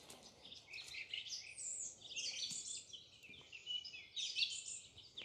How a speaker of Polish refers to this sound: Śpiewają fajnie. Dobra. Jednak ptaki śpiewają na tyle fajnie, że trzeba z tego skorzystać.